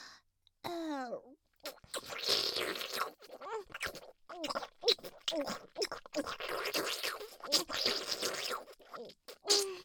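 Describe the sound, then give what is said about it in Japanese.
Wet mouth slurping and sucking sounds, made by sucking hard, come in a rapid, uneven stream of bursts, with a brief breathy vocal sound near the start. “強くジュルジュルってすするように。”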